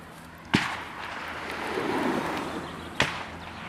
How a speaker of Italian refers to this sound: Dal parcheggio si viene subito accolti dal suono degli spari e dall'eco tra le montagne.